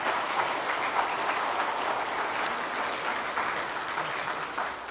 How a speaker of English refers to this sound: So give them a warm round of applause here.